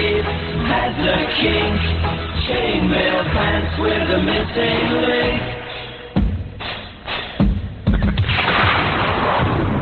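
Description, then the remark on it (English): Thunder-like booms and sharp cracks roll through a loud, dense wash of music, with a sudden cluster of abrupt crashes near the end. “Sounds like the crack of lightning and thunder over the survivor people, some of the rainstorms they've been going through lately.”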